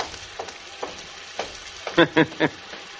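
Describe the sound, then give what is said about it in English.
Tap water runs in a bathroom at night in a steady, fizzing hiss, broken by a few sharper splashes and three louder bursts near the end. No one speaks. “Don't shut off that water, because I like to hear it run.”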